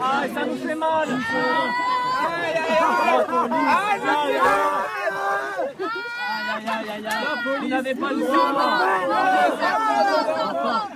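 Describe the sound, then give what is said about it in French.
A crowd of protesters shouting and crying out over one another during a staged police removal exercise, a dense, continuous babble of raised voices, with sharp yells rising above the loud, steady commotion. “Ok, alors, n'hésitez pas à hurler, à en rajouter, à dire là, vous me faites mal, arrêtez quoi.”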